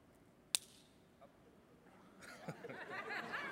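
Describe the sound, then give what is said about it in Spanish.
One sharp, dry crack of a wooden number 2 pencil being snapped in two using only the thumb, sudden, followed after a pause by soft, muffled laughter and murmuring in the background. “¿puedes partir ese lápiz?”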